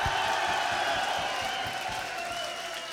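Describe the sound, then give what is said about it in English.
A large concert crowd cheers and claps steadily as bassist Mark "The Animal" Mendoza is introduced, a dense continuous wash of applause with shouts and whoops mixed in, heard from within the audience and holding level throughout. “Are you people in the back ain't clapping?”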